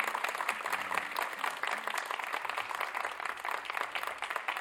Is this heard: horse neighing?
no